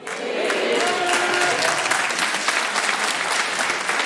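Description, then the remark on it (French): An audience applauds steadily, with only the women clapping: a dense wash of many hands clapping at a constant loud level throughout, with a faint cheer or whoop rising briefly near the start. “Il y a vraiment que les meufs qui applaudissent.”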